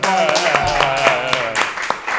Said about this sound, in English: We all clapped in agreement. Once.